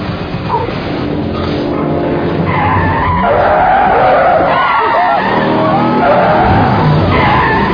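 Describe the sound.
A car tears along recklessly, tires skidding and squealing through wavering screeches over a loud, steady engine roar that fills the whole stretch, with voices faintly mixed in.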